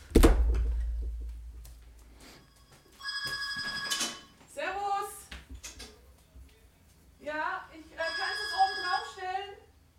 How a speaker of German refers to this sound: In 3, 2, 1 klingelt es bei mir an der Haustür. Jetzt.